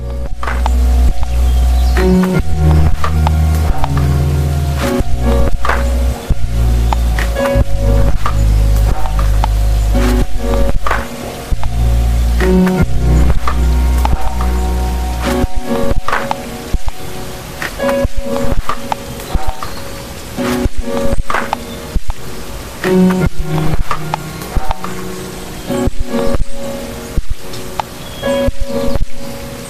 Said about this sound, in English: this is a piece called … from the gorgeous electronic artist called …